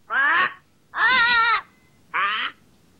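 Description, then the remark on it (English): A pet parrot named Polly squawks three times in loud, harsh bursts, each about half a second long with short pauses between, with no talking. “It's my parrot.”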